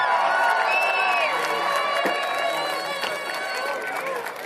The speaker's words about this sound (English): Come back here. Take a bow. Give them the applause they deserve. There we go.